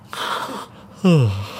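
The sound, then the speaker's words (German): A single exaggerated yawn: a long breathy inhale, then a loud voiced groan that slides downward in pitch and trails off. “Es gab ja den Tipp vom Miträtselteam, ganz doll gähnen.”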